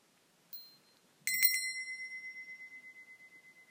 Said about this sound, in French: Et lorsque je vais entendre le son de la cloche, je pourrai rouvrir les yeux et m'étirer.